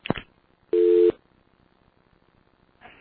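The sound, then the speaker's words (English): A single steady telephone tone beeps for about half a second after a brief click as a conference line is dialed, followed by a quiet pause and the start of another tone. No one speaks. “You just dialed.”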